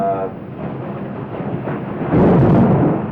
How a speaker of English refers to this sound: What would you call a storm like this? A thunderstorm.